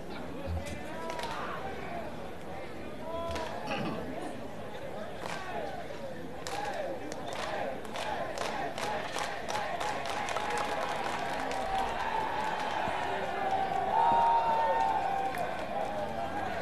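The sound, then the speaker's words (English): A baseball crowd along the first baseline, riled up by the mascot Hammy the Hammerhead on top of the Fort Myers dugout, claps and cheers, with a busy wash of voices and sharp claps that come thick and steady through the middle, the noise swelling a little louder toward the end. “Hammy the Hammerhead getting the fans riled up along the first baseline.”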